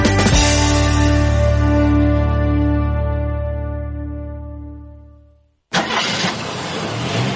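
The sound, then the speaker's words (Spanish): In a Helvetia insurance radio advert, a car engine cranks and catches, then runs with a steady humming drone that slowly fades away. After a brief silence, a sudden loud, harsh burst of noise, a crash, cuts in. “Coche.”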